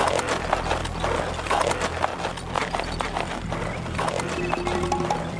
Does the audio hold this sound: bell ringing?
no